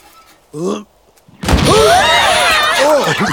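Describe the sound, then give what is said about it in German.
A short vocal sound, a brief pause, then a sudden loud bang from a toy cannon, immediately followed by sustained, excited clamour and shouting voices. “Durch den lauten Knall ist”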